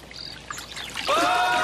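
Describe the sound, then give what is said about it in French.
Water splashes and churns in a large swimming pool, a steady wash of sloshing sound that swells louder toward the end, where a brief high-pitched cry rises over it. “Hey, vraiment super belle ta piscine, mais trop grande!”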